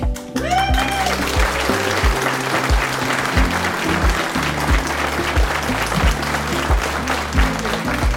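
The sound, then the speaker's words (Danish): An audience at a crime fiction fair in Snikkeriet, Horsens, applauds steadily for several seconds, a dense, loud wash of clapping from many hands, with a low, stepping bass line of music playing underneath. “Og som man kan høre, så har vi et dejligt, veloplagt publikum her i snikkeriet, hvor vi holder til.”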